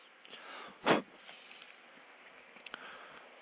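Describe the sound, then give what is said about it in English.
Someone lights a cigarette: one short, scratchy whoosh like a strike or flare, then a couple of faint clicks over quiet background hiss, with no talking. “And light a cigarette.”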